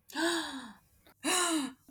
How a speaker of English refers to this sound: Big gasp.